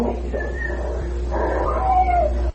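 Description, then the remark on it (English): A thin, high whistle tone is followed by a drawn-out cat meow that slides downward, over a steady low background hum with no talking. “And this voice comes in and says, nap cat, and there's a whistle and a meow.”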